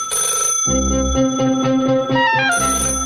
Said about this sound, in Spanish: A ver, que suena el teléfono, suena.